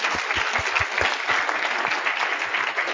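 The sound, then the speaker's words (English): A crowd claps steadily for a few seconds in a round of applause for those attending for the first time, a dense, even patter of many hands with some sharper individual claps standing out, no voices over it. “So let me have a round of applause for everybody here for the first time.”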